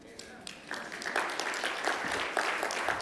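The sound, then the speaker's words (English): Audience applause builds after a brief pause into a steady, dense clatter of many hands clapping at once, moderately loud and sustained to the end. “If you agree with me, you might applaud.”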